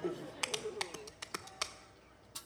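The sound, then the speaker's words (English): Hambone body-slapping percussion: about eight sharp, irregular slaps and pats on the body, fairly crisp, with a faint voice murmuring underneath at the start. “I've never thought what might happen if a person tried to ham bone and hit their crazy bone.”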